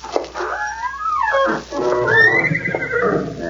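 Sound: horse whinnying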